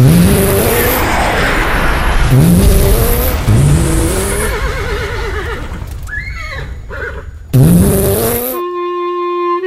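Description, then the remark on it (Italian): A car engine roars to life and revs hard as the vehicle speeds away with screeching tires, mixed with loud horse whinnies and ending on a steady, sustained tone. “Con la sua mega scoreggia, il cavallo attiva la macchina.”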